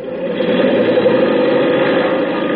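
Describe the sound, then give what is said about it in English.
A propeller plane's engine roars in a loud, steady drone with a throbbing low-mid hum and a rushing whir over it as the plane takes off for reconnaissance, holding constant throughout with no voices. “Gee, those propellers sure stir up the wind.”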